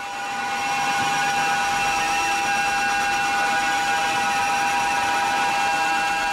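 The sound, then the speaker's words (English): A harsh, unbroken wall of screeching guitar feedback from a vinyl album drones on, with several piercing high tones held steady over a grinding, noisy low end, loud throughout and never letting up. “Yeah, vinyl album sides of each of 21 minutes long of nothing but grating, screeching feedback.”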